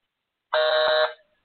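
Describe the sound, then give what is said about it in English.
A telephone busy signal: one steady, buzzy electronic tone lasting about half a second, loud and alone, then cutting off with a short fade and no voices. “Oh, dang it, gave a busy signal.”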